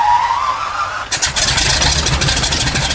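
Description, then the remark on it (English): Three Pratt & Whitney aircraft radial engines are started one by one before takeoff at Camarillo Airport: a whining starter tone, then a loud cough as an engine catches into a rough, pulsing roar that sputters and builds. “One by one, the three powerful Pratt & Whitney radial engines are started. It's an unforgettable sound.”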